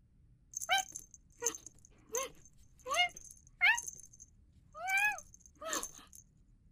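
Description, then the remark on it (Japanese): A one-year-old Scottish Fold cat named Sco makes about seven short vocalizations, bending chirps and small meows spaced roughly a second apart, with quiet pauses between them. No one talks. “私はスコ、スコティッシュフォールドの1歳と少し。”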